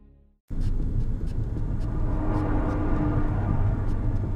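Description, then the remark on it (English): A car engine rumbles steadily after a brief quiet start, a loud low-frequency drone with faint intermittent clicks on top and no talking. “Oh, and that was my car.”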